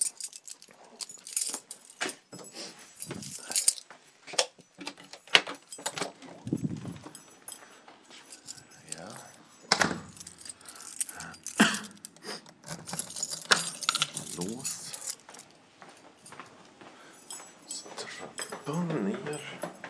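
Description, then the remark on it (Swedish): Keys jangle and clink against a lock, with sharp metallic clicks as someone closes and locks a door behind them, then a run of irregular thudding footsteps going down a flight of stairs toward the laundry room and more key rattling as a door is unlocked, all fairly loud and busy. “Del 1 här nu är att jag kommer att gå ut genom dörren, stänga den efter mig och låsa. Gå ner en trappa, låsa upp.”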